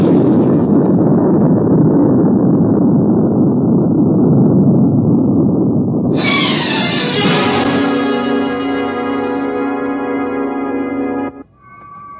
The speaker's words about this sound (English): All engines running. Liftoff. We have a liftoff.